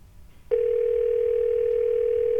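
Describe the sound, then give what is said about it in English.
A phone ringing tone on an unanswered call to a burrito hotline comes in abruptly after a moment of quiet room noise, then holds as one steady, unbroken electronic hum, loud, with no voices. “Nobody's answering the burrito hotline.”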